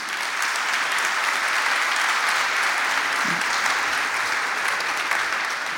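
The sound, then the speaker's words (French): Steady applause from an audience for the invited guests of a discussion, a dense wash of clapping hands that holds at an even level for several seconds without letting up. “Je vous demande d'applaudir nos invités déjà.”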